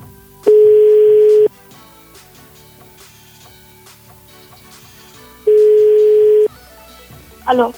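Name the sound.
telephone ringing tone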